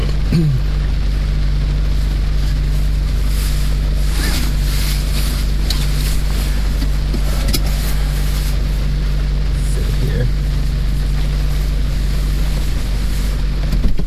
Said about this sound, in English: So you can hear the rain. You can hear the rain from the car. I mean, from the rain hitting the car.